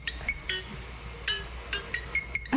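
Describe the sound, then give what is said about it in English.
A parrot mimics a phone ringtone, producing a run of short, bright, high-pitched electronic-sounding chirps in a quick, slightly uneven rhythm, with no talking over it. “Parrot's a ringtone.”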